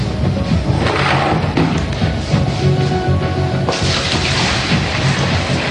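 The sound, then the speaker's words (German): Water gushes steadily into a bucket, one of ten drawn by lot and filled by a group of scientists for a dowsing test. A loud continuous rushing and splashing with low hollow thumps fills the whole stretch without pause, with no one speaking. “Zunächst lost die Wissenschaftlergruppe einen der 10 Eimer aus und füllt ihn mit Wasser.”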